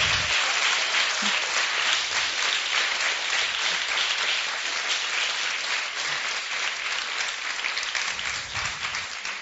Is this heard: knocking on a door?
no